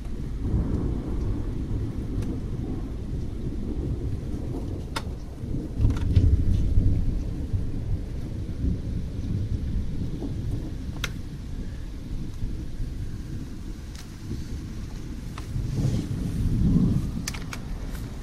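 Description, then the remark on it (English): Steady rain falls throughout a thunderstorm, heard at a bathroom window, with rumbling thunder swelling in the low end around the middle and again near the end, plus scattered sharp drips and taps. “We've had a couple of reasonably loud cracks, but I was hoping for some slightly bigger ones than the ones we've already been having.”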